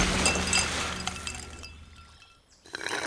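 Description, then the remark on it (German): Ice cubes clatter and clink into a glass of lemonade in a quick burst of bright, glassy knocks, tapering off before a final light rattle, with no voices. “Willst du noch mehr Eiswürfel, Oskar?”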